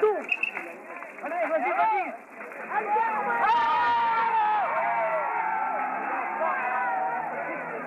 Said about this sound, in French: Quelques instants plus tard, les deux condamnés quittaient le palais de justice. J'étais alors dans la cour où attendait la voiture cellulaire. Dehors, une foule d'au moins 2000 personnes grondait.